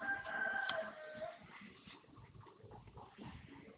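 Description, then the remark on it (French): A rooster lets out a single loud crow at the start, then fades into softer farmyard clucking and rustling for the remaining few seconds. “Le coq.”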